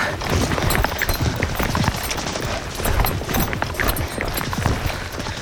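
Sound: horse hooves galloping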